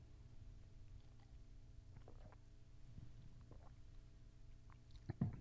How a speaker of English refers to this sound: But this water here, it's just it's good to keep this old body going. Amen. So I believe I'll have a good sip of it.